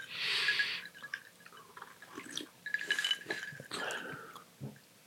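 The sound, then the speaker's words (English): Wet slurping as someone sips a drink: several short, airy pulls with faint liquid gurgles, fairly loud, with no talking. “Okay, so here we go. Sips, yes? Yeah. Sips.”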